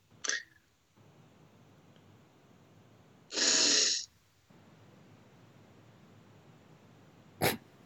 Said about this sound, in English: Little girls can't do big sniffs, apparently. They can.